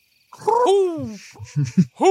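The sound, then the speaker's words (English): Human voices imitate the hoots of two big barn owls: a long wavering hoo-hoo, then a few short clipped hoots and a final rising call, with no other speech. “you've got two big owls with you now”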